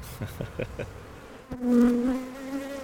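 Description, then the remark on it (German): Honeybees buzz around a hive as a beekeeper works with them, a few soft intermittent hums at first, then a sustained, louder drone as one passes, with a steady tonal whine. “Darum ist wichtig, dass man dann auch guten Tag sagt, sagt, was man macht mit den Bienen und dann anfängt zu arbeiten.”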